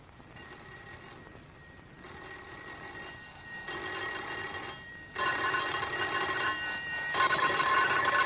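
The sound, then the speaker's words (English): Doorbells of houses on a darkening street ring in a series of sustained, buzzy electric bursts, each lasting a second or two with short pauses between, growing louder toward the end. No one speaks. “Together they leave the house, go out into the darkening street to ring doorbells.”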